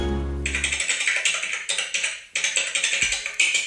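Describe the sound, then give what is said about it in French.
Rapid computer keyboard typing, a dense run of crisp clicky keystrokes, with a couple of brief pauses between bursts and no voices. “Oh ben, clairement un bruit de clavier.”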